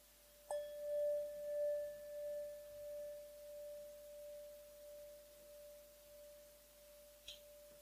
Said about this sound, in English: I will now ring the bell, and then you can open your eyes when you hear the bell starting to fade away.